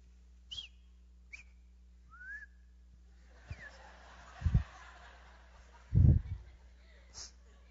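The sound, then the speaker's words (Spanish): Someone whistles a few short, sliding notes spaced about a second apart, fairly soft, followed by a couple of low, muffled bursts like soft chuckling. “Cuando mi mamá no silbaba, nadie se levante porque escobazos te va a dar. Pero el silbido se le conocía que andaba alegre.”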